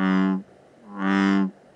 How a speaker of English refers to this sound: The bullfrog. The bullfrog is an introduced species that's a huge frog and a huge problem.